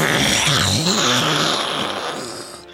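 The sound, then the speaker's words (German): A voice imitates a dragon growling again after it takes 7 damage in a game: one long, rough, rumbling snarl with a wavering pitch. It lasts almost three seconds, starts loud and slowly fades toward the end, with no talking. “Und es kommen weitere 7 Schaden auf den Drachen zu. Und er knurrt wieder.”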